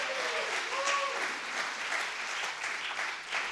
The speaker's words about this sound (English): Big round of applause